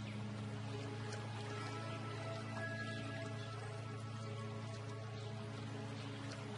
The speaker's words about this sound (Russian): Спокойная гладь воды, но где-то рядом журчит водопад.